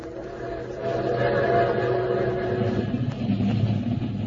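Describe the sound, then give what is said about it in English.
A steady, heavy mechanical rumble with low droning tones and rattling clatter, like a train rolling along the tracks, holding constant throughout without any speech. “About today's episode, well, when I went after those thieves, they kidnapped me aboard a train and... Listen.”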